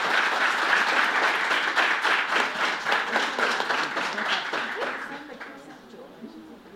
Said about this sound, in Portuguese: Pessoal, uma salva de palmas para o Major Renato.